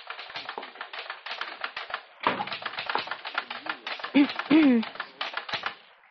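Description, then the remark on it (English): Rapid typewriter keystrokes clatter in dense, uneven bursts with a brief pause partway through, as an army sergeant types in the Intelligence Section at U.S. Army headquarters, while a faint murmur of voice-like sound rises briefly near the end. “entered the room where Sergeant Joe Fuller sat typing”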